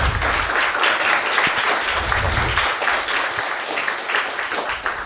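An audience applauds a speaker after a talk, many hands clapping in a dense, continuous wash of sound that stays loud for the whole stretch, with no voices standing out.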